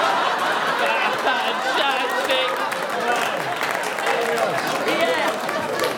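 An audience claps and cheers in a steady, dense wash of sound, with laughter and excited crowd chatter mixed throughout and no single voice standing out.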